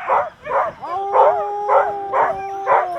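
Sled dogs bark in a steady rhythm, about two barks a second, while a long, drawn-out howl rises and holds beneath them, loud with no talking.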